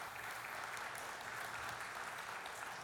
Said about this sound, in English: I think we should give that a round of applause.